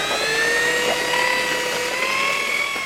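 A large electric mixer runs steadily to stir mortar, its loud motor giving a constant high whine with slightly wavering tones over a churning, gritty rush. No one speaks.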